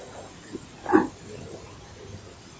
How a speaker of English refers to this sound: Hare Krishna, it sounded like a little monkey. My God, they are everywhere now.